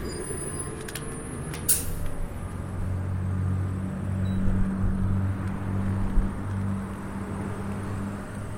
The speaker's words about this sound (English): Here comes a bus pulling up, it sounds like. So I just wanted to record those sounds. Oh, here's another bus.